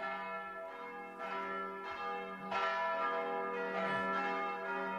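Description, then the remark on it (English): Every bell in a house clangs and rings together in a dense, sustained jangle, their overlapping tones swelling louder partway through and continuing without pause. “Every bell in the house must be ringing.”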